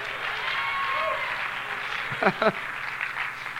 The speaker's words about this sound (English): And my wife's clapping her hands the loudest.